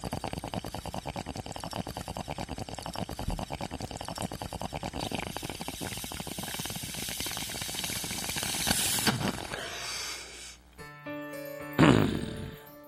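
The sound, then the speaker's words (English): A steady gurgle of bubbling water as someone pulls a long inhale through a water pipe, a bong, for about nine seconds, followed by a sharp release and a brief exhale. “How about a big old bong rip and throw in some dad jokes?”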